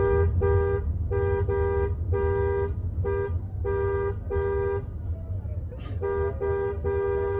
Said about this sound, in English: I'm going to mute that because it's just honking, but look at this.